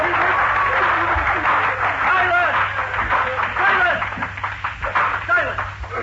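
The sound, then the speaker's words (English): Courtroom spectators burst into sustained applause, a dense wash of clapping that fills the room for several seconds, with excited voices murmuring and calling out over it. “Sergeant-at-Arms will bring forward immediately the parties that applauded.”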